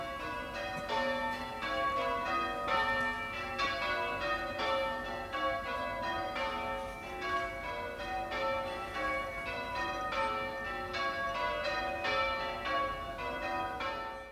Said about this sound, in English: While we were in Shanklin, the church bells started up, so I thought I'd make a little recording of that.